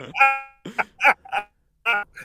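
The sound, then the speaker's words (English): The horn of a big truck, sounded by a caller from Delaware, honks several times: one longer blaring blast, then a string of shorter irregular toots with a bright, buzzy tone and no talking over them. “Just honk your horn. We want to hear you honk your horn.”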